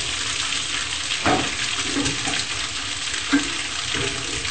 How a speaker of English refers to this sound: I think we have done enough frying.